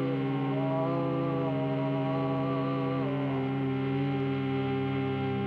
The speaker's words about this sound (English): And then you can try making very deep ones. It's a little hard to hum deeply, but open your voice up a little bit now and go down deep in the body.